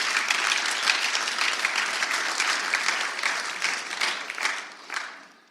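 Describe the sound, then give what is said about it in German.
A church audience at a Sunday service applauds together for five people recently baptized at the Eiserfelder Weiher, a dense, steady wash of many hands clapping that holds for several seconds, then thins into a few scattered claps and fades out. No one speaks over it. “Da dürfen wir gerne nochmal für klatschen, für die 5 Leute.”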